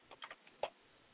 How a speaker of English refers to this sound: Sorry, keyboard is a keyboard. You can hear it, can't you?